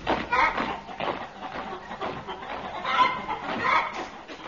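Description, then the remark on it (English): A chicken clucks busily and continuously, a string of short, fairly loud bursts with no pause across the few seconds. “Chicken, chop, quick, march.”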